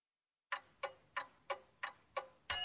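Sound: clock ticking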